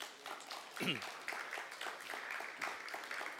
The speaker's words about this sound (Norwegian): Skal vi gi en applaus for Jesus i formiddag?